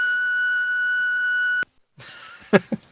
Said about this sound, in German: Na, egal, dann quatsch du nach dem Piepton, wa?